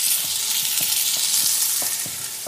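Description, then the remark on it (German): Diced chicken sears in a hot pan with a loud, steady sizzle, broken by soft knocks and scrapes every half second or so as the pieces are stirred. “Hähnchenwürfel scharf anbraten.”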